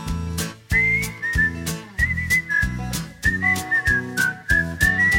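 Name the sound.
human whistling a tune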